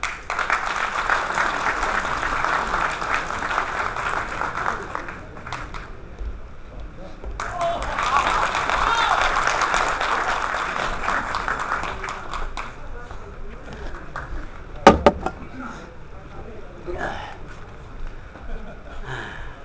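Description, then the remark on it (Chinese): An audience breaks into warm, sustained applause welcoming a crosstalk (xiangsheng) performer, a dense crackle of many hands that swells in two strong waves before gradually thinning out toward the end. “下面用热烈掌声有请”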